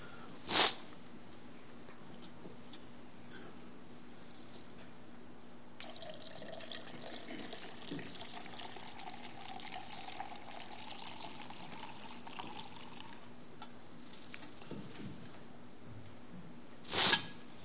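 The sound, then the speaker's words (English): Liquid trickles steadily into small communion cups for several seconds, with a sharp clink at the start and another near the end, and no talking. “The cup of blessing which we break is the which we pour”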